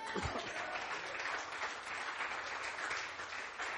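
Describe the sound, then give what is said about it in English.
A church audience claps together at the preacher's call in a dense, steady wash of applause, many hands overlapping into a continuous crackling roar with no individual claps standing out. “Clap your hands.”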